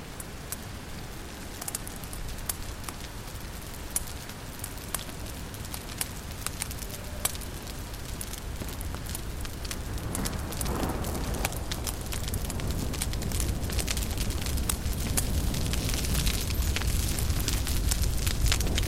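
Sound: bonfire burning and crackling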